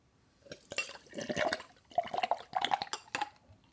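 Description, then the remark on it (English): A nitro stout, kept nitrogenated in the bottle without any device inside, is poured hard from the bottle into a glass, with several seconds of gurgling, splashing bursts of liquid and no talking. “Nice hard pour.”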